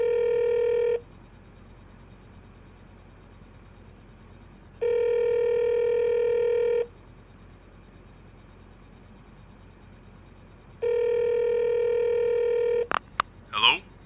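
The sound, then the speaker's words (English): A telephone ringback tone heard through the line on a call to an office: three steady electronic buzzes, each about two seconds long with long pauses between, followed by a sharp click as the call is picked up. “Ringing Murray Hill 70093.”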